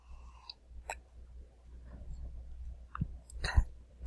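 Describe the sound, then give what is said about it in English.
Quiet mouth sounds of someone sipping beer: a few brief slurps and wet clicks spaced over a few seconds against a low, steady background rumble, with no talking. “Okay, let me take another sip here.”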